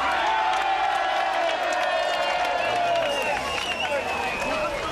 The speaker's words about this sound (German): Werden Ausländer und Asylbewerber Wohnheim in Hoyerswerda ständig von Skinheads überfallen. Und mancher Bürger klatscht Beifall.